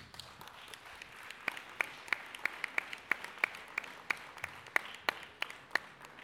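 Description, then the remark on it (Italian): An audience in Rome applauds steadily to salute Franca, who recently died. Sharp, regular claps stand out above a continuous wash of softer clapping, holding a fairly even rhythm throughout, and no one speaks. “Credo che Franca rimanga con noi, la vorrei salutare con un applauso.”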